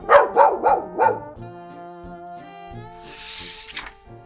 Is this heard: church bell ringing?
no